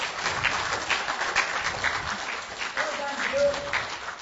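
A crowd claps steadily for about four seconds, a dense, even patter of many hands with no pause, and a short raised voice cuts through near the end.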